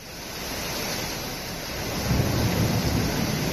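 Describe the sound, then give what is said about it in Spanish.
A dense, steady roar of torrential rain from a storm in Lorca pours down without a break, growing heavier and louder partway through; nearly 18 litres per square metre fell in 45 minutes. No voices, just the constant hiss and rumble of the downpour. “se han recogido precipitaciones de 24,8 litros por metro cuadrado en 12 horas y en apenas 45 minutos, como decías, casi 18 en la tarde de ayer durante esa tromba de agua que nos dejaba este sonido.”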